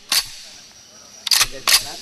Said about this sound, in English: As the early morning sun begins to cut through the woods, a teenage guerrilla cleans his gun.